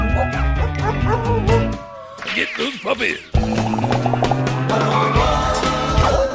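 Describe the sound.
An upbeat theme song plays loudly, with a voice singing lyrics over a full band and steady bass, pausing briefly midway before the band and vocals surge back in.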